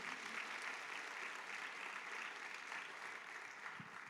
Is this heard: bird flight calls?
no